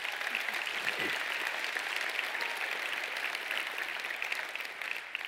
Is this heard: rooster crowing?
no